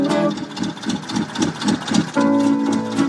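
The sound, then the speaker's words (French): A steady chugging tractor engine beat, about two or three thumps per second, runs beneath sustained tones of live street music played by guitarists, which swell back in toward the end. “Eh ben, c'est pas une batterie, c'est un tracteur.”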